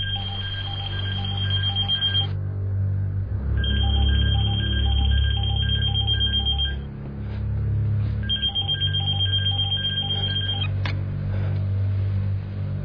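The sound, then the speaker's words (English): A telephone rings three times, each ring a long trilling burst separated by short pauses, loud, over a steady low rumble like an idling engine. “Since you're answering the phone, I'm going to assume this is Dennis”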